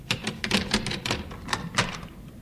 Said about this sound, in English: Open the door.